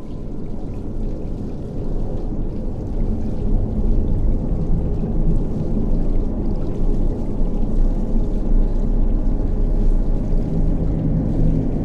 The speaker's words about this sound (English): Water runs down carpeted stairs to a ground floor where it pools at the corner of a doorway.